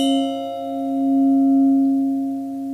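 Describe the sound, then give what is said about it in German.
A clear, sustained ringing tone from wine glasses clinked together in a toast hums steadily with a bright shimmer of overtones, slowly swelling and fading in gentle beats. No one speaks. “Vielleicht können wir jetzt anstoßen.”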